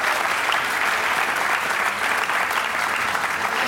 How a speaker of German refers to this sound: So ist die Fotoapparat noch einmal ordentlich drin geliehen mit einem Applaus von Ohrdorf Theater.